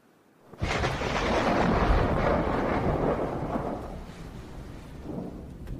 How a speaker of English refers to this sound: The sound of thunder may indicate divine intervention or anger.